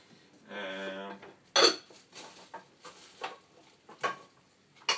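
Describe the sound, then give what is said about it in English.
Clattering and clanking of metal pots and pan lids being shuffled around as someone searches for a lid for a pot, with a brief ringing scrape at the start followed by a series of irregular knocks and rattles. “I just need to find a lid for this pot.”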